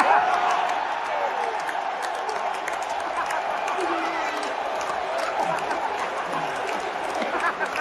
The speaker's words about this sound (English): The crowd straight up exploded.